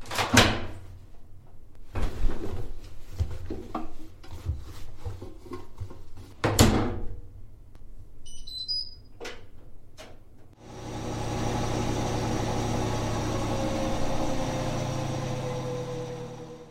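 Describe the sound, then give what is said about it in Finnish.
A washing machine door clunks and bangs several times, a few short electronic beeps chirp, then the machine starts running with a steady, even rumble and hum that continues to the end. “Muutama ääni pesukoneesta.”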